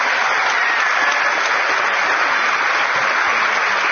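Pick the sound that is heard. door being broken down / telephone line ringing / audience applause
audience applause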